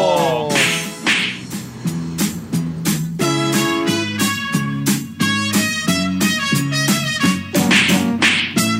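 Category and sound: sound effect, slap sound effect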